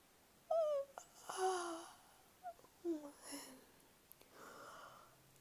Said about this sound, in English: Double yawn. This kitty's tired.